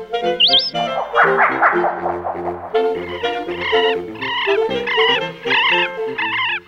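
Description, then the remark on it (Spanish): A loud, harsh bird call repeats in rapid rattling bursts, clear, the ringed kingfisher's rough chattering cry over a dense layered background with no voices. “Nuestro martín pescador es el más grande de Sudamérica y es típica su figura bajita y fornida.”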